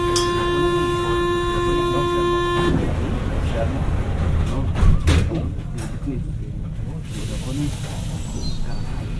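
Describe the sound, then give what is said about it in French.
A steady warning tone sounds over a pneumatic hiss, then metro train doors thud shut with a sharp clap, leaving a low rumbling hum of the subway car with faint background voices. “Les portes se refermèrent dans un bruit de mâchoire qui claque, et le métro se mit en branle, cahotant sur ses rails.”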